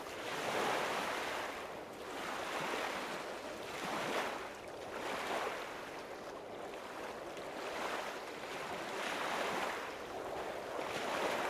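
Waves break on a beach shore in a steady rolling rhythm, each surge swelling into a broad hiss of surf and washing back, with a constant windy roar underneath and no voices.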